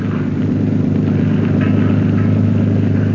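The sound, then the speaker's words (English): A steady, loud motorboat engine drone with strong low harmonic bands runs continuously at constant speed as the motorcraft is steered out to sea at night, with no voices. “Turk steers the motorcraft out to sea.”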